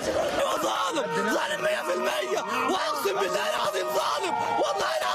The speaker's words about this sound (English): Relatives of those condemned screamed and wailed Saturday near the courthouse after learning of the judge's decision to uphold 183 of the death sentences.